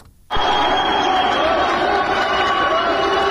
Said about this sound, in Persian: صدای تشویق قوی ترین زن ایرانی است، گیتی موسوی، زمانی که نام خود را در تاریخ ورزش جهان جاودانه کرد.